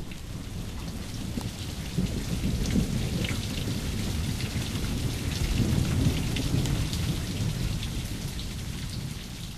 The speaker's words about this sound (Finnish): Äsken värähti jossain kaukana salama ja nyt jyrisee. Ukkospilvi ei ole enää monen kilometrin päässä.